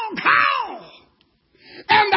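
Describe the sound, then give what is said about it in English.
A man's voice imitates a crow, giving two loud, harsh, nasal caws with a brief pause between them, the first drawn out and falling in pitch. “Now, I don't know how a raven sounds in the Bible, but I know how a crow sounds.”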